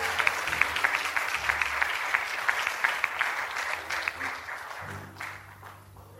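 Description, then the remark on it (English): An audience at a Pentecostal church service claps its hands in a dense, steady burst of applause, with scattered shouts rising over it before the clapping thins out near the end. “Clap your hands, somebody, and shout hallelujah.”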